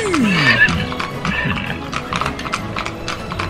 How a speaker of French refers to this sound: Ils vont sauver la veuve et l'orphelin et monter au galop au soleil couchant. Et nous aussi d'ailleurs. Le cheval.